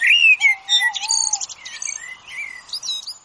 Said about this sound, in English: The reason I was asking the purpose of the singing was to understand whether, when it changes, do the other birds, do they understand the signal that's made by the song?